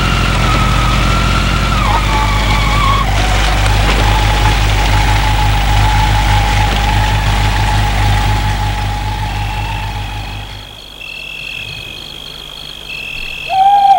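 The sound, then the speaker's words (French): A scooter engine runs steadily, its pitch stepping down a couple of times before it cuts out as the rider stops the scooter at the side of the road, leaving near silence with a few faint high tones. “Il va arrêter son scooter au bord de la route.”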